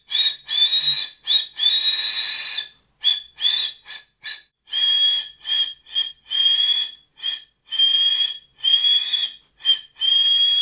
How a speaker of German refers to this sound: Ich muss vielleicht ein bisschen reingehen, aber wie ich jetzt mit den Fingern pfeifen würde. Okay. Das war nix.